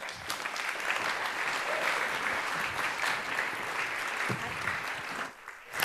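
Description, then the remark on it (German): Steady audience applause welcoming a speaker to give a talk, a dense crackle of many hands clapping at an even, fairly loud level for several seconds before it briefly dips and swells again at the end. “Bitte begrüßt mit einem großen Applaus unsere wunderbare”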